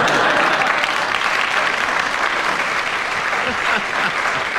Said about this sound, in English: I don't know why you applaud such devious thoughts